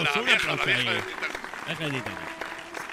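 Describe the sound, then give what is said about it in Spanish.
Applause from a crowd for a guest who has just recited lines from the film Titanic, a steady patter of many hands clapping mixed with voices cheering and calling out over it, holding at a fairly even loudness throughout. “Un aplauso.”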